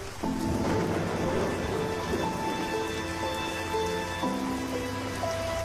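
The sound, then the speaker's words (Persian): Steady rain pattering on a surface, a dense continuous hiss throughout, with soft sustained musical tones playing over it and no voices. “صدای بارون، صدای اون، صدای قدم های آدم ها در رفت آمد، این ضربه زدن به کلیدهای پیانو.”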